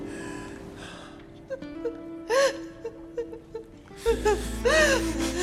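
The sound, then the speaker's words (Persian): A woman cries and whimpers in short, breathy, quavering bursts with gasping inhales, moderately loud over a low, steady background hum. “گریه چرا؟ گریه نکن”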